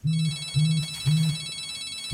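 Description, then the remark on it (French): A telephone rings in a steady repeating pattern, short low buzzing bursts about every half second with a faint high tone above, as a Nouvel Observateur journalist calls Serge Trigano days before the first Mama Shelter opened on rue de Bagnolet in 2008; no one talking. “Quelques jours avant l'ouverture, une journaliste de Nouvel Observateur contacte Serge au téléphone.”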